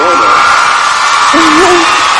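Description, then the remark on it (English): A dense, steady wash of studio applause sound effect, loud and continuous throughout, with a few brief hooting or whooping tones rising out of the noise. “That was your applause. Our studio applause.”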